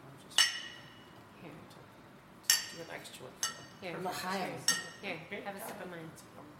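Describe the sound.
Glasses clink together in a toast, two bright ringing taps a couple of seconds apart, then softer clinks amid quiet overlapping voices.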